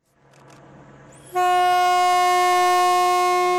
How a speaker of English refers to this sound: After 18 days and 28,000 kilometers, the freight train pulled into London on time last week. It passed through Kazakhstan, Russia, Belarus, Poland, Germany, Belgium, and France, finally crossing under the English Channel.